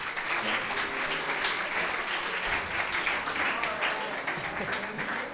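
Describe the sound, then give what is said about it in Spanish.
Sustained applause from an audience for a musician guest in the music section of a morning radio programme, a dense, steady wash of many hands clapping at even loudness throughout, with faint voices mixed in underneath. “Vamos a darle un fuerte aplauso, como bien se merece,”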